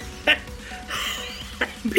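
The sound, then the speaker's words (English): A voice imitates exaggerated, wheezy gasping for air: a sharp catch, a long raspy breath, then two more quick hitching gasps at the end. “Sound like an old man gasping for air.”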